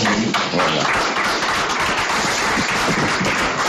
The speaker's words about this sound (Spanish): Con un aplauso histórico en la sala de prensa del Alcoraz, los periodistas despedían así al míster de la Sociedad Deportiva Huesca, ya ex-míster, que se nos hace raro.